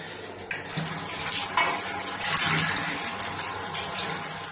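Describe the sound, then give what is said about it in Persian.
Tap water, presented as the drinking water of the people of Ahvaz, Iran, runs steadily, a continuous splashing hiss with faint clinks as it pours into a sink or container. No one speaks. “بله، اینم آب آشامیدنی مردم اهواز به برکت انقلاب و تدابیر ملایان پروار و غیر پروار و مکلاهای اطراف اونها.”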